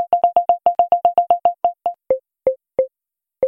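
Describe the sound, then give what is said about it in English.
An electronic beeping tone from a phone's people-detection feature, panning left to right to show where a person is, repeats quickly, then the beeps space out and drop slightly lower in pitch, slowing to a few sparse blips. Clear, with no talking. “So yeah, if you've got both earbuds in, you can hear where the person is left to right as they cross your path.”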